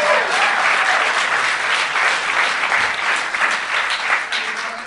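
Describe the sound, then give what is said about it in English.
A large audience at a comedy festival in Vancouver claps steadily and loudly for about five seconds, a dense, sustained wash of hands with no voices standing out, fading slightly at the very end. “Still to come here at the Vancouver Comedy Festival, hold your applause till the end.”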